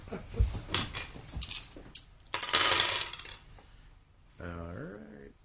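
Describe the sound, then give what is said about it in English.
Dice, including purple, blue and black dice, clatter and tumble across a hard tabletop in a quick series of sharp clicks and rattles that settle after a few seconds, followed by a short voiced murmur. “And I can go ahead and do the yeah, you can add the blue dice, and you need that this black dice that's here on the table if you'll grab one of those.”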